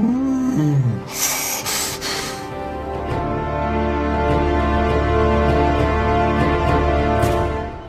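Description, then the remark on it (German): A whipped cream can sprays in a few short, hissing bursts, followed by a sputtering, rumbling hiss that continues steadily over a low hum. “Und mir gegenüber sitzt der Mann mit der Sprühsahne”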